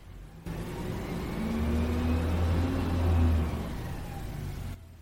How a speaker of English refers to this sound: And fittingly enough, just as I'm wrapping all this up, the recycling garbage truck has pulled into the alley. Here, give a listen.